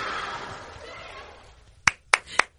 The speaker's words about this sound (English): That was so good. Clapping. That was so good.